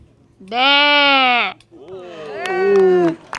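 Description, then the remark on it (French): A child's voice imitates a sheep, giving two loud bleats: a steady one-second 'baa' followed by a longer, wavering one. “Et alors tu nous fais? Le bruit du mouton.”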